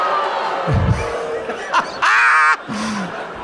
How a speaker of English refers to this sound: Booing. Everyone in the audience right now is dressed as characters from Blues Brothers 2000.